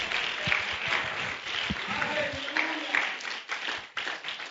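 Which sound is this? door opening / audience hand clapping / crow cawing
audience hand clapping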